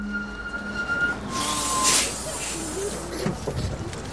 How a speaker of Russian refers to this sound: Громко скрипя тормозами, автобус останавливается и шумно открывает двери перед самым носом Кашина